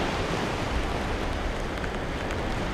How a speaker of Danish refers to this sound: Ude over havet vender regnen hjem. Dråberne har perforeret stranden med små kratere.